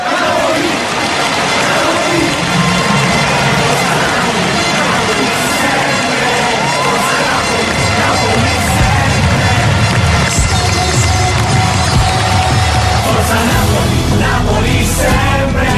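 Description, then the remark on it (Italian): A large crowd shouts and cheers in a loud, continuous roar of many overlapping voices, with a deeper rumble building through the second half. “Il grido della gente.”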